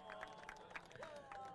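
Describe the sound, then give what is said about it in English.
A crowd applauds the second-place podium crew, number 72, in a dense, continuous wash of clapping with a few sharper claps standing out, fairly quiet overall, mixed with faint murmuring voices and a thin sustained tone. “Getting a great, great round of applause.”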